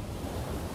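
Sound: ocean waves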